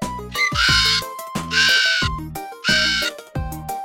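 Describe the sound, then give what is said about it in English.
A parrot squawks loudly and harshly in three repeated bursts, each a raspy, strained cry with a brief gap between, with no talking. “Since the parrot wouldn't stop, the queen ordered the maid to open the window.”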